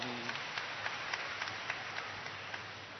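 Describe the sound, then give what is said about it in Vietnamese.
An audience applauds a correct answer to a priest's question about the Mass. The clapping is steady, rhythmic and fairly faint, and it continues evenly throughout with no talking over it. “Chính xác, rất giỏi, cho tràng pháo tay.”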